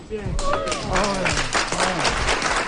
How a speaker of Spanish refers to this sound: Aplauso en esta calle San Jerónimo.